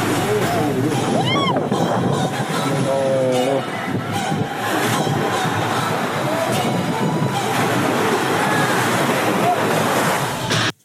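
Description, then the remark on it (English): A constant heavy roar of sea waves crashing against the shore fills the scene, loud with a windy rush, while voices talk and call out over it. “Seen the sea? The sea's coming. Hit bricks.”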